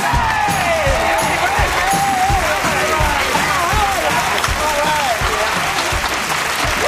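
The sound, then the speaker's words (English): A large studio audience at the Tool Time show applauds loudly and steadily, with scattered cheers and whoops rising above the dense clapping throughout, sustained without pause, cheering for the K&B Construction crew from Bay City as they are brought out. “Bring them out. Now, cheer for Rock, Pete, and Dwayne.”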